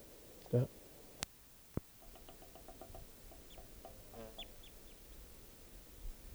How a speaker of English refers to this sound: Wild bird.